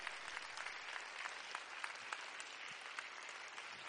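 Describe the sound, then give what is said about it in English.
A church crowd applauds steadily to congratulate the new youth leaders of Section 2 Youth Department of the Missouri District, a dense wash of many hands clapping at once with a few sharper claps standing out, sustained at an even level throughout with no voices. “They're clapping for you, but it just means more work.”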